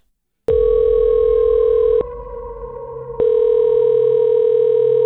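A loud, steady electronic telephone tone hums alone after a brief silence, dips quieter for about a second partway through, then returns at full strength, as an outgoing prank phone call rings a radio host's number.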